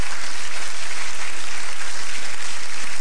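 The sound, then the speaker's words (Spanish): An audience applauds God during a church sermon, a dense, continuous crackle of many hands clapping that holds an even loudness for the full three seconds, with no voices standing out. “Denle un aplauso al Dios de la gloria, amén.”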